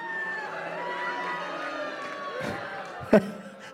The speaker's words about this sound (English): I think you're booing the government. Boo, don't mention it. We don't need to hear about it.